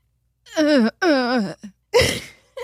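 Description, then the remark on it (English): A voice imitates holding in a sneeze that takes forever to come out: two drawn-out, wavering voiced breaths build up, then a short, breathy, stifled burst follows, with a faint puff of air at the end. “Holding in a sneeze that's taking forever to come out.”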